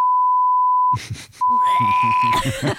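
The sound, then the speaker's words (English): A steady pure electronic beep tone from an exam recording, marking the break between sections, sounds alone for about a second, then returns as a longer beep while people talk over it. “Beeps that break up the section.”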